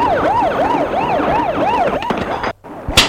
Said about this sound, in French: Ils demandent, qu'est-ce que c'est? Qu'est-ce que c'est? Rien, c'est la rue.